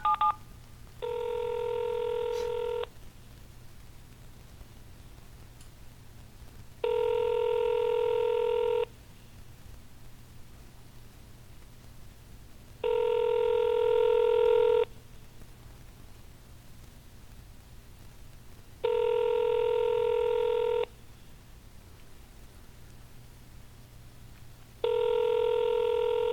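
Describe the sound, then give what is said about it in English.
A telephone call to a Dollar Tree store rings unanswered on the line, five evenly spaced ringback tones about two seconds long, repeating every six seconds over a faint steady hiss, with no one picking up. “So Dollar Tree store 40248 is not going to answer the phone”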